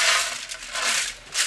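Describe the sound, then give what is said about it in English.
About 1.7 kilos of cacao beans pour into a metal Ronco turkey roaster in a small flavor lab beside a factory floor, a steady rattling cascade with a few louder surges of clattering as the stream thickens. Fairly loud, with no talking. “So what I'm going to do right now is I've got this Ronco turkey roaster. I'm going to load some beans into it.”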